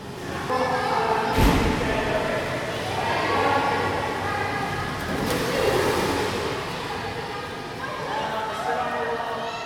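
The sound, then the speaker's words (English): Children shouting and playing while swimming at a public pool, their voices echoing in a steady, reverberant din with a couple of sharp splashes rising above the crowd noise. “You heard Chesapeake Bay waves, children swimming at a public pool, and water coming out of a fire hose.”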